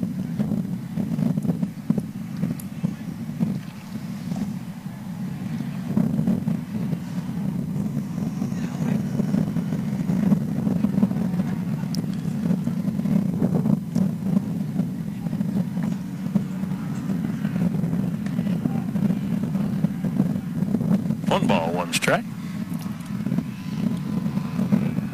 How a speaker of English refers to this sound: Probably hear the breeze through the microphones. Got that windy. Going on. A little windy.